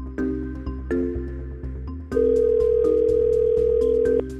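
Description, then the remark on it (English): A telephone rings with a loud, steady electronic tone lasting about two seconds, preceded by softer, shorter tonal beeps. Nobody speaks. “It's going to ring once and you're going to go, oh God, I think I'm going to throw up.”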